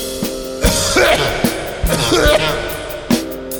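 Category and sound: human body sound, coughing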